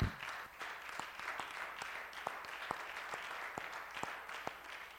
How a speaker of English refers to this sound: He's worthy of a hand clap. Can we do that for a moment?